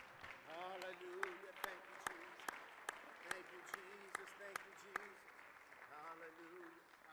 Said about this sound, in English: Let's clap our hands to him again today.